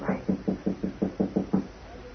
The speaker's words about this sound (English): I'll try the door. Okay. Bolted. Oh? All right, try knocking, but softly.